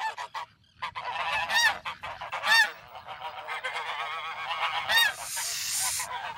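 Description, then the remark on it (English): A flock of geese honking continuously on sand-and-grass islands, many overlapping calls in a busy, noisy, loud chorus, with a low rumble of wind or water underneath. “There are geese, gulls, eider ducks, cormorants, waders, spoonbills, and more than 2,200 nesting common terns.”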